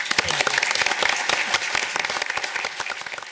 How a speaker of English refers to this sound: So, we join me in a round of applause and recognition and thanks of our outgoing deputy mayor, Penny Sweet.